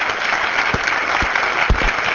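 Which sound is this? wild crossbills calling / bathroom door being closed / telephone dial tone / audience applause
audience applause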